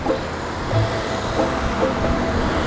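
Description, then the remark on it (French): Steady road noise from cars entering an expressway ramp toward Lorient, France, around 6:05 with some wind, about one car every ten seconds. A continuous low rumble and hiss at moderate loudness, with no clear individual pass-bys and no voices. “Donc là, il y a davantage de voitures qui s'engagent sur la bretelle qui mène à la voie express côté Lorient.”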